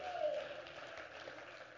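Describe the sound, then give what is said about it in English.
An audience claps together in a steady, dense wash of applause, sustained and fairly even in loudness, with a faint voice briefly rising over it near the start. “Would you clap your hands and say hallelujah?”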